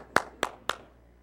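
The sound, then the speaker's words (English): Three sharp, evenly spaced claps ring out in a quick steady rhythm, fairly loud and crisp, with no talking and only a faint background hum between them. “We clap for everything here.”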